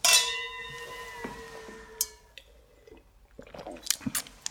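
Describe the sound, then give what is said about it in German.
Glasses clink together once in a toast, loud, leaving a bright ringing tone that fades over about two seconds, followed by soft clicks and handling noises. No one speaks. “Dann lass uns doch erstmal anstoßen, bevor wir zum ersten Buch kommen.”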